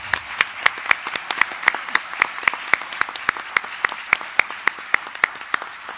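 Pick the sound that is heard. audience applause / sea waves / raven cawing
audience applause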